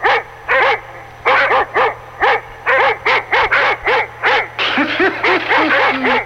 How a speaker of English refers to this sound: St. Louis police were prepared for the 5,000 fans who stormed the field after last night's game. They had police dogs at standing guard. Police dogs standing guard on the field.